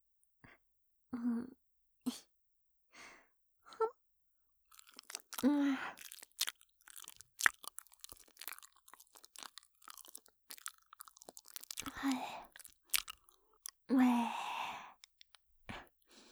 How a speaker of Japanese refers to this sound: ママのお口の中で愛を混ぜ混ぜしてるところもっと見たいの。いいよ、ママがお口の中でもぐもぐしてるところ直接見せてあげる。じゃあ今度はお芋さんにしよっか。